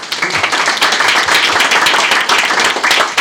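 An audience applauds steadily, a dense wash of many hands clapping at a fairly loud, even level throughout, with no voices heard.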